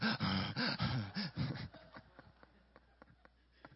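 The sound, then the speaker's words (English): A voice imitates heavy, rhythmic panting of someone out of breath while running: loud, quick gasping bursts that trail off into softer breaths and faint clicks. “Now, I will say I do hear my breathing.”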